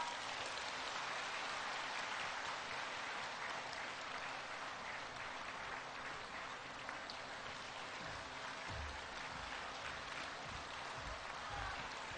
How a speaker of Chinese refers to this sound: 现在，让我们用最热烈的掌声，恭请尊敬的卢军宏台长。